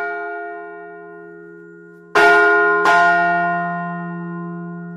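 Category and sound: signal or alarm, large church bell ringing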